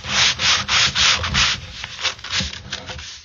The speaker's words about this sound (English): That's some chair sanding there from Rob.